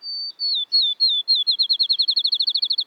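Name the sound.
field sparrow song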